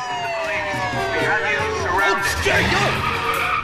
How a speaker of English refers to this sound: Squad cars pull up.